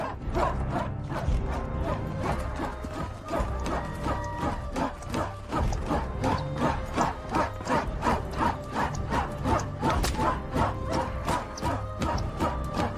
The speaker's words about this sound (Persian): بلو دختری جوون اسلحه‌اش رو تیز میکنه